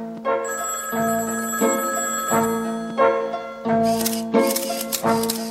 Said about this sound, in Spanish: Carmen Conde acaba de recibir ya muchas felicitaciones por teléfono y el teléfono continúa llamando constantemente.